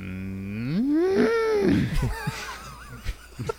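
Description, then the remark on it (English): A single long, loud cow moo rises and swells in pitch for over a second, then trails off into bursts of laughter and scattered noises. “We asked for technical, you know, cow, you know, in honor of this day, noises.”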